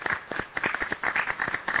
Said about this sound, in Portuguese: vamos fazer o seguinte, vamos dar uns parabéns com palmas para o doutor. Vamos lá? Parabéns.